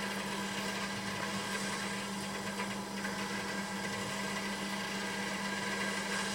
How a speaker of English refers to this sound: Okay. I just have to wait for this kettle to boil now. I think I'll pause this momentarily while I do that. Okay, I think this kettle is going to boil any moment.